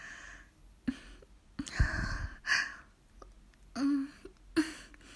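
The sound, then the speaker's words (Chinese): Several soft, breathy pants and sighs from a woman come in uneven bursts, quiet, with brief pauses between them and no talking. “啊，老公，你是说我刚刚好像也在轻声喘息？”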